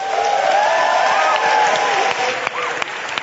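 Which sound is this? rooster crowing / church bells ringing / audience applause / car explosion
audience applause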